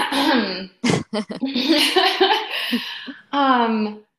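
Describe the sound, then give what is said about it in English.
A voiced throat-clearing: a rough, gravelly rumble with a couple of short harsh bursts, then a drawn-out hum-like vocal sound, all fairly loud and without spoken words. “Well, I'm going to clear my throat really quick.”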